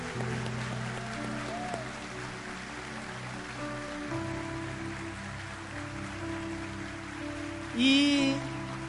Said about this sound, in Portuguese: E como homenagem ao Dia da Mulher, eu peço que todos os homens possam aplaudir essas mulheres nessa manhã.